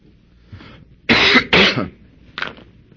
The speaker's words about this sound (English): Well, when you get coughing, you can't talk anymore. You just have to take a break for a minute.